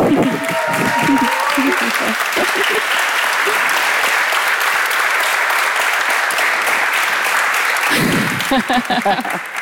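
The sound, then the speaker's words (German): Sustained audience applause, a dense steady clatter of many hands clapping at full volume for several seconds, with a voice speaking briefly at the start and again as the clapping ends. “Deshalb bitte noch einmal Applaus”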